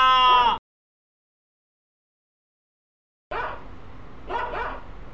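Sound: dogs barking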